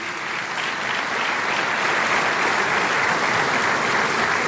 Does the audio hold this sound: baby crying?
no